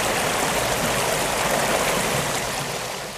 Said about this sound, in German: Vor ihnen braust ein wilder Bach quer über den Weg.